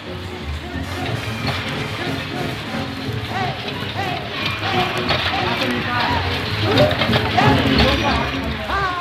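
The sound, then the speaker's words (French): A dense, unbroken clatter of small metal balls rolling and dropping, threaded with ringing bells and electronic chimes, with amplified voices and music blurring underneath, growing slightly louder toward the end, from pachinko parlors with rows of machines on Ginza Street, Japan. “Flânant dans Ginza Street, On passe devant plusieurs boutiques d'où s'échappe dans un cliquetis de sonnettes un roulement ininterrompu mêlé de sonorités de haut-parleurs.”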